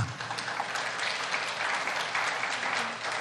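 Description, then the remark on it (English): A crowd applauds steadily, a dense, even wash of many hands clapping that holds at a fairly constant loudness throughout, with no voices standing out. “I didn't do that to get cheap applause.”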